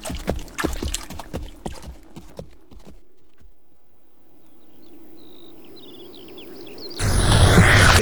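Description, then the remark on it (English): Irregular splashing steps slosh through water as people travel through water to hide their scent and tracks, easing into a softer, steady watery churn with faint bird chirps, before a sudden loud rush of noise at the end. “Through water, then over rocks.”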